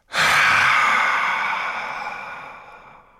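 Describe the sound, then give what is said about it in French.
A single long, breathy exhale pushed audibly through the throat after a deep breath filling the throat with air, during a guided breathing exercise, starting strong, then slowly fading over a few seconds. No talking. “Troisième et dernière, respirez à fond, remplissez votre gorge d'air. Et expirez.”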